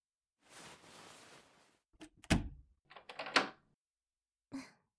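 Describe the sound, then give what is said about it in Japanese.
A sliding door in a shop after closing time moves along with a soft rush, then shuts with a solid thunk, followed by a cluster of rattling clicks as the lock is worked and one final small click. Clear, no voices. “鍵を閉めるの、おかしいですか？”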